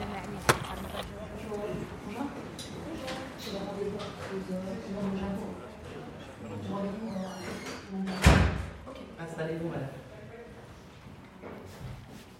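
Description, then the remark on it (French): A large white door at a contraception centre creaks open and later shuts with a solid thump, while muffled voices and room noise carry on in the background. “Et je me souviens encore de la grande porte blanche.”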